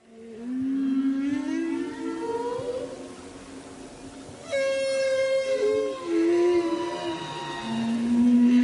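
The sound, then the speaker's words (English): Humpback whale song drifts in from a distance as the whales approach the Silverbank, a large area of coral off the coast of the Dominican Republic, recorded on board the Dardanella: long, sliding moans and rising whoops with harmonic overtones, one call following another over a steady underwater hiss. “This is a recording of humpback whales in the distance approaching the Silverbank, a large area of coral off the coast of the Dominican Republic, which I recorded whilst on board the Dardanella.”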